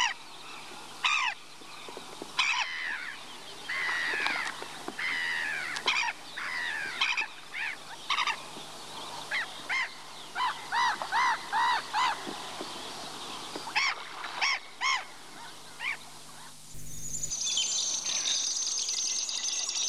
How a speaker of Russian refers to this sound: На такой охотятся речные чайки. С высоты бросаются в воду, кричат, ссорятся.